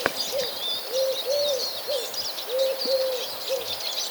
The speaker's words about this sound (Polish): Idę dalej, bo tu mamy w oddali między domami pochukuje sierpówka. Gołąbek o jasnym upierzeniu to nie jest sowa, jak wiele osób uważa.